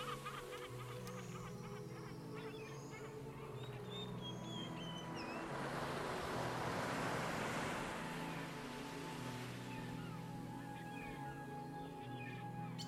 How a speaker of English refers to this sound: In front of me, the ocean is calm, inviting. An ocean of peace.